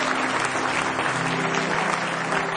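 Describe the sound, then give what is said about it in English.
An audience at a worship service claps hands in praise of the Lord, a dense, steady wash of applause for a few seconds, with a faint sustained organ-like tone underneath. “Give Him one more hand clap of praise.”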